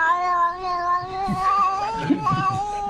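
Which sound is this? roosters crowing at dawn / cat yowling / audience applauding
cat yowling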